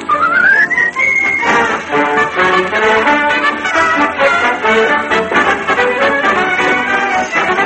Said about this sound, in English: But I found out, I know it's true, a whistle does much more for you. So I love to whistle, troubles won't come near me, especially when they hear me.